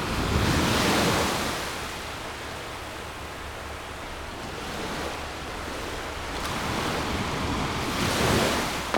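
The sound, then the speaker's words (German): Ocean waves break and wash onto the shore in broad, rushing swells, with surges near the start and end and a steady roar between; the water is very cold. Some wind buffeting, no voices. “Gehen wir das nächste Mal runter und stellen die Füße in die Wellen.”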